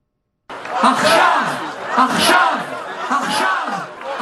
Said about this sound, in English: A crowd in Tel Aviv, Israel, rallying in support of the Israelis and others held hostage by Hamas for a month now, chants in Hebrew, Achshav, Achshav, meaning now, now.